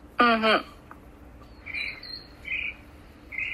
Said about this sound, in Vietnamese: Nghe tiếng chim thích quá ha.